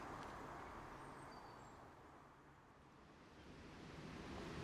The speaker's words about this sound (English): Well, for our final stop, we've come down to the very distinctive Pulteney Weir in the middle of Bath, where the River Avon streams over three dramatic drops in a great sort of swoosh of brown and white foam.